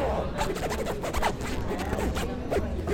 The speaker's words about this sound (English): we thought that we could have a conversation between our two zips